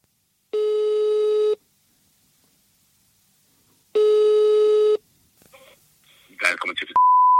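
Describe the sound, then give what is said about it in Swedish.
A phone line rings twice as a man calls a bicycle shop, each steady, buzzy ringback tone lasting about a second with a long pause between, then a clatter of pickup noises and a brief high tone. “Så man kan väl säga som så att det blev lite märkligt när en kille ringde dit för att få hjälp med att täta sin trasiga Barbara.”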